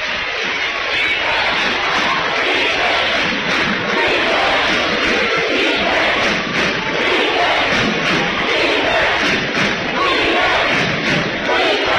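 A loud, dense crowd roar with cheering and shouting fills the whole stretch, steady and continuous, with occasional thumps and surges of yelling rising out of the din.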